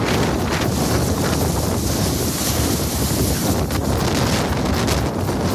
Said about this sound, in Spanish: En Almería, la alerta naranja también por el fuerte viento.